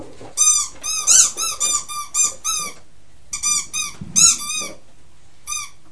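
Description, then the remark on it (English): A pig noise from a children's sound book plays as a run of high, harmonic squeals: about seven quick bursts, a short pause, then several more. The squeaks are fairly loud, with no one talking over them. “It's a funny noise for a pig to make, isn't it?”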